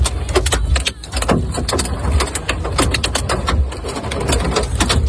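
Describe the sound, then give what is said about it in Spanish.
Golf-ball-sized hailstones from a hailstorm in Madrid, Spain, hammer down on car hoods in a loud, dense, irregular barrage of sharp metallic knocks, hundreds of hits overlapping over a steady low roar, with no voices. “Fue tremenda esa granizada que sonaba, por ejemplo, así sobre el capó de los coches.”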